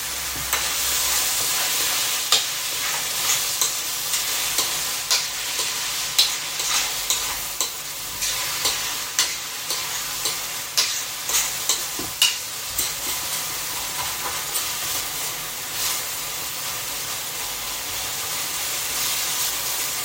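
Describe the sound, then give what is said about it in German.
A long, round metal ice-cream spoon, likely stainless steel, scrapes and stirs meat being browned in a pan with repeated rhythmic strokes, over a steady bright sizzle of frying. Continuous, with no talking. “Ich habe hier so einen längeren Eislöffel, wo rund ist, wahrscheinlich aus Edelstahl.”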